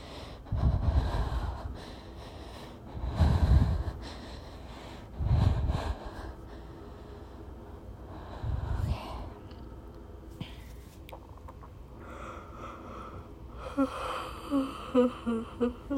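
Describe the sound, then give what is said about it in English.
Several breathy, drawn-out yawns come one after another, with heavy inhales and exhales, ending in a higher, voiced, stretching groan near the end. No words are spoken. “Also, I have to apologize for yawning, because if you're like me, you yawn when other people yawn, and I've yawned like 5 times, so I'm sorry if that made you sleepy.”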